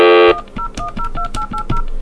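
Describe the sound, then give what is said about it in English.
A rapid string of about eight touch-tone telephone beeps, loud, dialed after pressing flash, following a brief steady tone at the start, each dual-pitched beep clipped and evenly spaced. “Flash. Dial slowly.”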